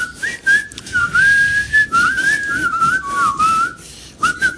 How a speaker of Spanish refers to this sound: Hay un blusito ahí con whisky, con hielo. Ahí, ahí silbando el tío, ¿no?